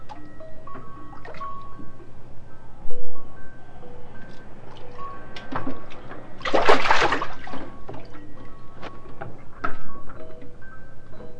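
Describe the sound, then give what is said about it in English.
Bath water sloshes and splashes, with one louder burst of splashing midway and scattered drips and light knocks around it, no talking. “Oh, I don't get your bath water in the cup.”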